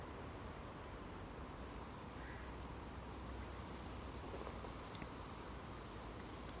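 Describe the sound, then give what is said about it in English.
Light rain patters steadily outdoors, a soft, even hiss with a fine crackling texture that holds at a constant level throughout, with no voices present. “Nope, it's definitely the rain.”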